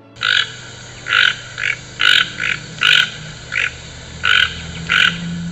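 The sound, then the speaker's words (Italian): A toucan named Toco, perched atop a half-destroyed Christmas tree, gives a series of about ten harsh, croaking, mournful calls that resemble a siren, in a steady, uneven rhythm, each burst short and raspy, repeated over a low background rumble with no voices. “Il tucano li guardò, mandando il suo lugubre verso che somigliava effettivamente a una sirena.”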